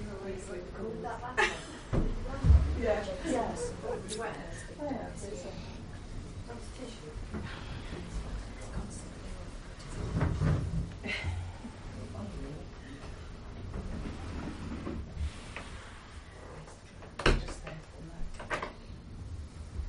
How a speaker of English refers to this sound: It's raining.